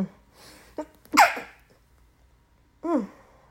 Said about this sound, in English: I have to sneeze. Hold on 1 second.